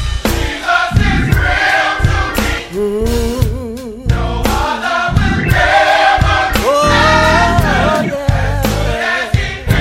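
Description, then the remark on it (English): An audience claps along while singing praise to God, with sustained voices swelling over steady hand claps and accompaniment, full and loud throughout. “Come on, let's clap our hands and lift our voices.”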